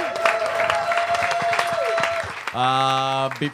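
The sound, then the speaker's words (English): An audience at a live show applauds the performers, clapping steadily in a dense, crackling burst for over two seconds, then a loud sustained voice rings out as the clapping thins at the end. “Give these guys another round of applause.”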